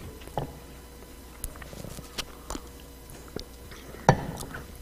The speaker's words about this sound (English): Let me take a drink of water here.